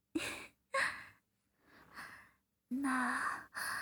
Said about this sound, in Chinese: 你怎么了？你怎么开始大喘气了？是我弄的吗？